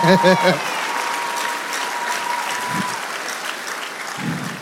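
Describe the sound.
A crowd claps steadily for several seconds, a dense, even patter of many hands, with a brief voice at the start and a couple of faint vocal sounds mixed into the applause.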